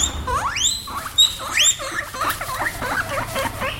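Guinea pigs squeak, two rising whistle-like wheeks early on, followed by a busy stream of shorter chirps and chattering squeaks overlapping one another at a steady moderate loudness.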